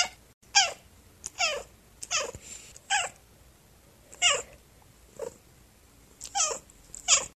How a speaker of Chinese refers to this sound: 第二，发出短音的喵。